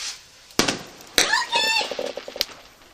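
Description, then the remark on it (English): A voice imitates a firework: sharp popping bursts, then a rising whistling whoosh with harmonic streaks, followed by a crackling patter of small pops, fairly loud. “and I know he didn't like them, but he just kept being a firework after that.”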